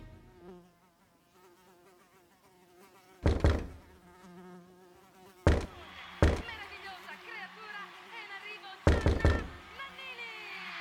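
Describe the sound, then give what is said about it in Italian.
A housefly buzzes steadily throughout on a sunny afternoon, its drone wavering in pitch, while four loud, sharp, insistent knocks on a door break in at irregular intervals. “Pomeriggio assolato, di quelli che anche il ronzio di una mosca può risultare fastidioso.”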